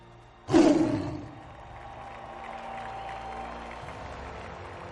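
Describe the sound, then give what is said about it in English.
A big stadium crowd erupts into a sudden loud roar of cheering for Bengals legends, peaking quickly and then settling into a steady, sustained wash of cheers and noise that carries on to the end. “Ladies and gentlemen, let's hear one more roar in the jungle for our Bengals legends.”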